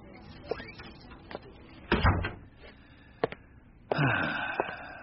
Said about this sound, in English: Shut the door. Yes, sir.